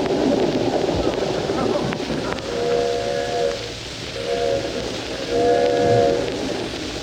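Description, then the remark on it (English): The 20th Century passenger train, nearing New York, runs on the tracks with a steady rushing rumble, and three drawn-out whistle blasts sound over it in the second half. “Jack Benny hasn't arrived yet, but we have finally located him on the 20th Century train, nearing New York.”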